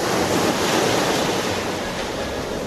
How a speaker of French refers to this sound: À 10 minutes de Bayonne, ce sont les vagues de l'océan qui dansent.